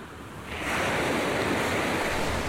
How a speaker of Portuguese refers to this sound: Que cor são estes pássaros? Que textura tem este mar?